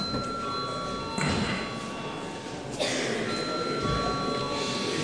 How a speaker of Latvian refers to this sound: Lūdzu zvanu.